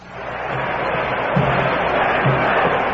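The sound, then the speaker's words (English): A huge crowd of more than 55,000 at Briggs Stadium in Detroit roars during the fourth quarter of a Detroit Lions football game against Cleveland, a dense, continuous wash of noise, steady and loud throughout with slight swells, no single voice standing out. “The Lions are leading 45 to 14, and with the roar of a crowd of in excess of 55,000 behind them, the Detroit Lions have the ball at the 32-yard line of the Cleveland”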